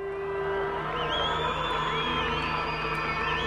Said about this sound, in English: South Africa's ruling party is heading for a decisive victory in its parliamentary election. You can hear the crowds and supporters of the ANC already celebrating, but officially the results won't come out until Saturday,